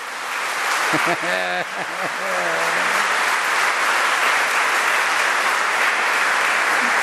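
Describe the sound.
An audience applauds with dense, steady clapping that fills the whole stretch at an even loudness. A voice briefly calls out over the applause near the beginning.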